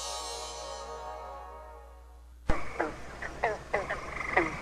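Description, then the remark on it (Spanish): A toad croaks in short, repeated calls about twice a second against a noisy outdoor background, following a sustained ringing trill that slowly fades away. “El sapo, Juan José Arriola.”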